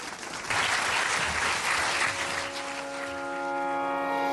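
An audience claps steadily for several seconds to thank a guest speaker, a dense, even wash of many hands. Toward the end the clapping eases as a sustained tonal sound, like music, rises underneath.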